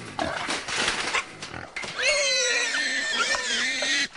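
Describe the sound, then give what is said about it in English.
Ten trapped wild pigs, a boar, two sows and seven piglets, squeal and grunt in a frantic, overlapping chorus inside a steel trap enclosure, loud, with rattling thumps of struggle early on before high-pitched shrieks dominate. “When they drive up, 10 swine, a boar, 2 sows, and 7 piglets, struggle frantically inside the steel enclosure.”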